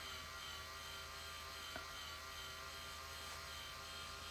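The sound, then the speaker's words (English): A vibrator motor buzzes steadily and without pause, sounding just like an electric toothbrush, a low electric hum with faint higher overtones, fairly quiet and unchanging throughout, with no voices. “I just realized why this sound was bothering me so much coming from this vibrator.”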